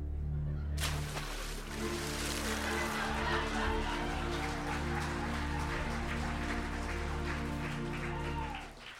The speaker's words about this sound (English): It does rain all the time in the harbor. The rain is my soul, weeping for the depths to which this city has sunk.